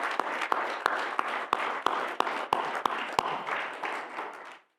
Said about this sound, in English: And so I would like everybody just to give him a round of applause because I truly appreciate it.